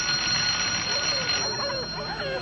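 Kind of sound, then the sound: household object, doorbell ringing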